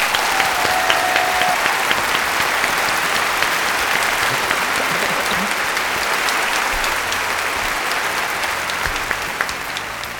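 Sustained applause from an audience giving another round of applause to welcome someone, a dense steady clatter of many hands clapping for about ten seconds, loud throughout and tapering off slightly at the end, with faint crowd murmur underneath.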